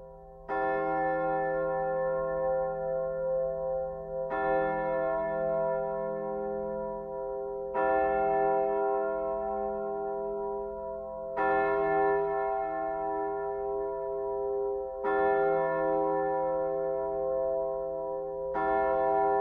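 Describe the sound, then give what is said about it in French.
A carillon of church bells rings out in a slow, steady sequence, each stroke leaving a long, rich hum that overlaps the next, sounding distant but full, with no voices present, announcing the news of the armistice. “et finalement le silence de la paix, percé par le carillon lointain, annonçant la bonne nouvelle de l'armistice.”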